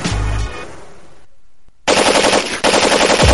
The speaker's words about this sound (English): If you're not careful, you might hear this explosion.